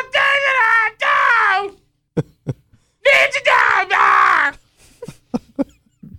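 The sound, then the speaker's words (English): A man screams into a microphone in two long, strained, high-pitched vocal wails, imitating a singer's soaring note from a song, followed by a scattering of short, sharp clicks and taps. “They're just screaming into our goddamn microphone.”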